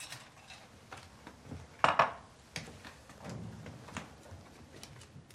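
Ice clatters into a glass in a bright burst of clinks as a bartender fills it, followed by softer knocks and glassy taps as a bottle of liquor is retrieved and handled, with no talking.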